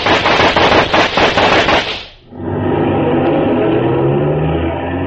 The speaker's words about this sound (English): Joe, were those shots?